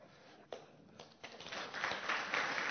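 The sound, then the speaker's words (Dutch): An audience breaks into applause: a few scattered claps at first, swelling into steady, dense clapping that grows louder toward the end. No one speaks over it. “Nou, je hoeft er niet voor te klappen, maar het is...”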